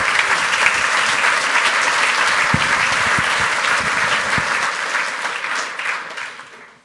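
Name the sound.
audience applause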